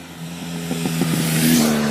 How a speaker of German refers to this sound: Kakophonie des Alltags. Der aussichtslose Kampf gegen den Straßenlärm.